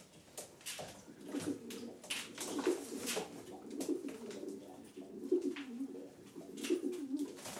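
pigeons cooing

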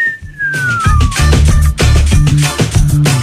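cat meowing

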